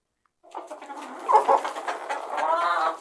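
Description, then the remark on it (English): Hens on a farm cluck steadily, a busy run of throaty calls with a louder squawk partway through and a drawn-out, rising cackle toward the end. No one speaks. “I'm over at my cousin's farm. I'm taking care of her hens.”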